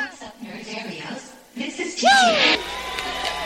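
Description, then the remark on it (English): A murmuring crowd swells into cheering, with one loud rising whoop cutting through before settling into a steady wash of applause and chatter. “The applause already, bro?”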